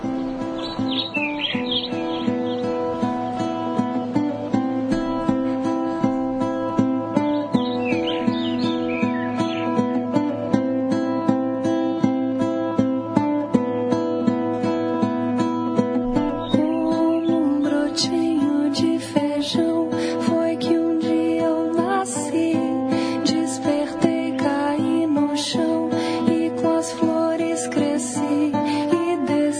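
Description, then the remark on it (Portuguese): A pop song about little birds, from the singer's first album, plays continuously for the whole stretch, with steady, full instrumentation and a denser, brighter section in the second half. Chirpy, bird-like high accents appear early on. No one talks over it. “A gente tem essa música aí, a gente tem essa música. Vamos ouvir na um pedacinho.”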